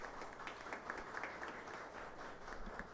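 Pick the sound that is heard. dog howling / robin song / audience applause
audience applause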